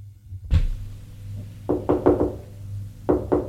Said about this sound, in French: On a frappé à la porte du salon.